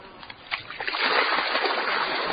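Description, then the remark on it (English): Rushing, splashing water pours out steadily, a broad hiss that swells after a softer start and stays loud throughout, as water is let out of a hillside rice paddy field system in Long Shen where carp are kept. “But before he starts work, he needs to let some water out of the system.”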